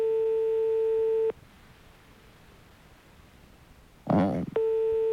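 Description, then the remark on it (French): A steady electronic telephone ringing tone sounds over the line in two bursts as a call is being placed, broken by a stretch of hiss and a brief muffled noise, with no one speaking. “Vous entendez la sonnerie?”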